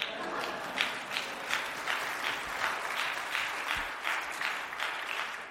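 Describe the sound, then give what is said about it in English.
An audience claps steadily throughout, a dense, continuous wash of many hands with a faintly pulsing rhythm and no voices rising above it. “Now you can clap.”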